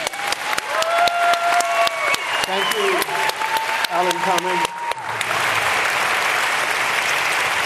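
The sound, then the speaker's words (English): An audience at a book talk claps steadily while a man speaks over it briefly, then the clapping swells into loud, dense, sustained applause that fills the remaining seconds. “So now you can clap.”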